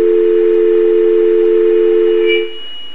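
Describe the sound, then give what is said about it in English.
A loud, steady electronic beep from an automated telephone transfer system, prompting the caller to speak a department name, holds unbroken for over two seconds, then cuts off into a faint, muffled line noise. No one speaks. “Please speak the name of the department you wish to be transferred to after the beep.”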